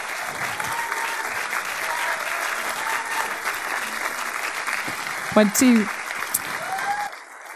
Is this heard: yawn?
no